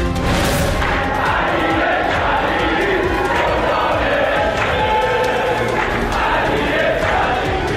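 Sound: stadium crowd cheering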